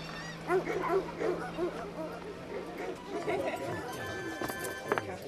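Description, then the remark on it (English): A dog at a dog competition barks and yips in a rapid string of short, excited bursts, over a busy background of murmuring voices and some clattering. “Name? Us or the dog.”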